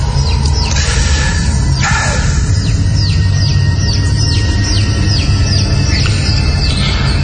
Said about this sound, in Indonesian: Ketika pintu sudah tertutup, suara anak ayam itu masih terdengar di telingaku dan terasa sangat dekat sekali.